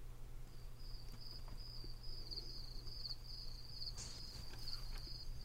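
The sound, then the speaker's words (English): Crickets chirp in a steady, high-pitched trill that runs nearly the whole time, fairly faint, over a low constant hum, with no one talking. “Crickets, crickets.”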